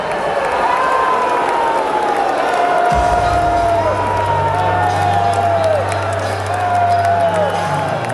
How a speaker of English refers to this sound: They scolded one of their own, Senator John Cornyn, for even participating in the watered-down talks on gun legislation. Listen to them booing him.